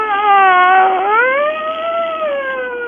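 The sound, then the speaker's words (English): A cop imitates a police siren with his voice in one loud, sustained wail. The pitch dips briefly, then swoops back up and holds steady, with no other sounds or talking. “He's this cop that uses his voice as a siren.”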